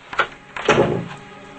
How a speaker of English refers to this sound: Carrie opens a door and Brian follows her inside.